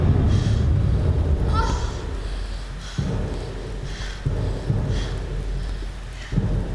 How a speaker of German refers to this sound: Wir müssen alle in den Regen kommen! Der ist ganz warm!